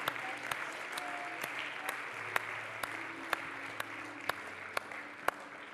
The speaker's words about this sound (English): Can we give him a hand clap again this morning, Jesus?